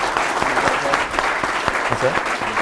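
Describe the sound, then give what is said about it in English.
A steady round of audience applause welcoming Chairman Rogers and Ranking Member Ruckensberger, dense rapid clapping of many hands at an even loudness throughout, with a voice faintly audible underneath. “Well, please welcome them with your appreciate applause.”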